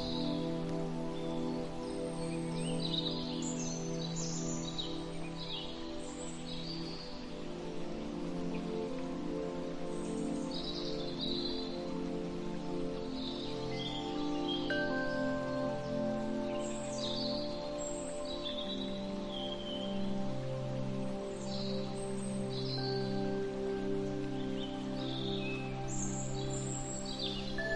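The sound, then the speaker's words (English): Scattered bird chirps and tweets come and go throughout, fairly faint, over a steady rain-like patter and a soft, sustained humming drone. No one speaks. “Look up at the sky, the trees, the birds.”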